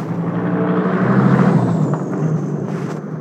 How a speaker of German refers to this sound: Es tut mir echt leid. Normalerweise fahren hier nie so viele Autos längs.